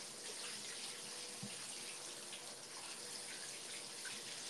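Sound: shower water running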